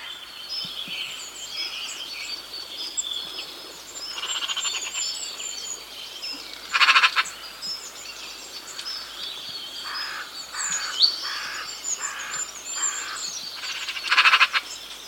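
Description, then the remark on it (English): Harsh, rasping magpie chatter cuts through a busy outdoor chorus, with a loud burst midway, a quick run of repeated rattling notes near the end, and a final strong outburst. “They're sociable birds, and are often seen chattering noisily in small groups across many habitats, from gardens to parks and heaths to hedges.”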